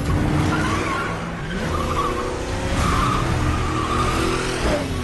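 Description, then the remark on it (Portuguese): A car skids with tires squealing in shrill, wavering tones over a loud, steady engine roar, continuous for the whole stretch with no voices. “Acha que um engarrafamento e jogar um carro em cima de mim vai me deter?”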